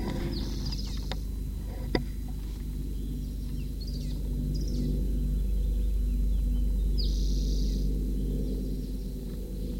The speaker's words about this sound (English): Same bird that was calling Speedeek at 8:58.